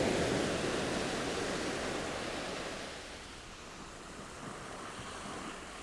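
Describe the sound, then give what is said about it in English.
Foamy sea waves break and wash onto the shore below cliffs as the tide begins to recede, a broad hissing surge that swells loudly at first, then eases into a softer, fizzing wash as the water draws back. “The foamy waves, like lemonade fizz.”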